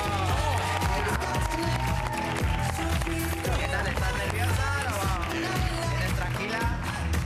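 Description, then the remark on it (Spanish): A studio audience applauds Tamara Falcó on her first day on a talk-show panel (tertulia): a dense, steady wash of clapping that holds at full strength for about seven seconds, with voices and tonal cheers rising over it. “Un aplauso para ella.”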